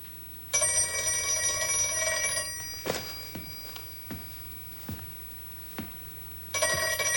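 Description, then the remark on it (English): An old-fashioned telephone bell rings loudly in a long burst, stops, then starts again, with a few dull thumps and footsteps in the quiet gap between rings. “Emma heads for the phone.”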